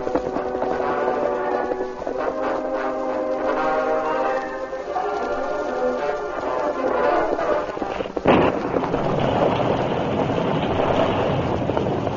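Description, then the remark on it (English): A sustained musical passage gives way to a sudden, sharp thunderclap around the two-thirds mark, followed by a loud, steady roar of storm noise, like wind and rain, with no one talking. “A sudden storm came up before the Lone Ranger and Tonto reached their destination”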